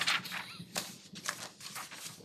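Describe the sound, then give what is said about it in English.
Soft, irregular clicking of keys being typed on a keyboard, a quick flurry of taps with brief pauses, fairly quiet against a faint room background. “You type whatever you're typing.”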